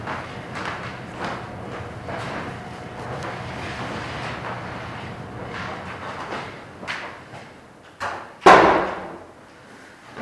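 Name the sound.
door being closed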